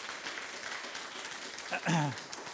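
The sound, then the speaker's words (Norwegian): An audience in a hall applauds after an instrument performance with a steady, dense wash of clapping throughout, and a short voice cry rises above it near the end. “Det er ikke verdt en applaus.”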